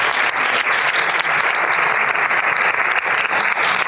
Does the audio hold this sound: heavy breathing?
no